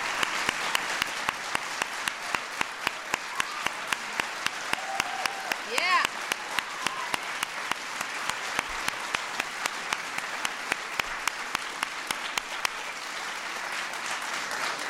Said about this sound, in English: I want to recognize all the artists here today who've committed to working in these schools over the next 2 years. I want you all to stand so that we can give you all a round of applause. All of you.